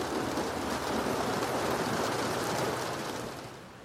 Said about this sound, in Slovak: Opakuje si tú vetu stále dookola, kým nezačne na vyleštené sklo bubnovať dážď, ktorý ho ukulíše do spánku.